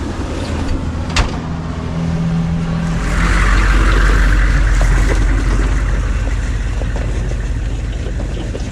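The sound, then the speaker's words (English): A boat's motor drones steadily on the water, a low rumbling hum that swells slightly partway through, with a brief knock near the start and no voices. “I'm still walking, the boat's still here.”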